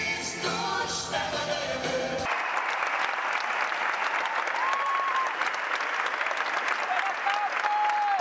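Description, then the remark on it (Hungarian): A huge arena crowd bursts into a loud, sustained ovation for Pope Francis as he rides a mini popemobile through the arena, dense applause and cheering with a few high whistles rising above it, after a brief stretch of music at the start. “Ez az ováció pedig már a Szent Atyának szólt, aki egy mini pápa mobillal gurult végig az arénán, majd kiszállt és saját lábán ment oda a színpad előtt lévő fogyatékkal élő fiatalokhoz, akiket megáldott.”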